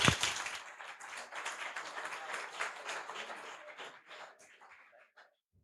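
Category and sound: crowd, audience applause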